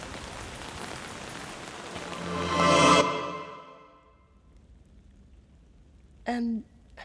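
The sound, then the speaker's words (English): Steady hiss of rain starting to fall that swells louder for a few seconds, then cuts off abruptly into near silence, followed by a brief vocal sound near the end. “Oh, it's starting to rain.”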